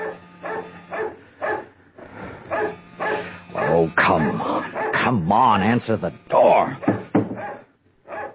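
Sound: dog barking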